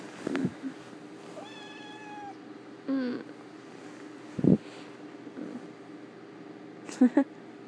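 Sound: cat meowing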